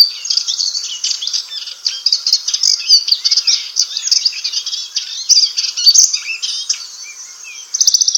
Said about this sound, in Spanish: En los setos se escuchará el parloteo de los zarceros.